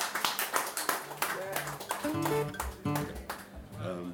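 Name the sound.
audience round of applause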